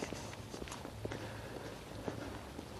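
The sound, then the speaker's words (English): Steady footsteps tread along a wet surface under a constant hiss of falling rain at 8 o'clock in the morning, each step a soft splashy thud at a walking pace, with no voices. “So yeah, 8 o'clock, walking in the rain.”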